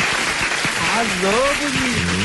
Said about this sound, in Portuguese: Aplausos.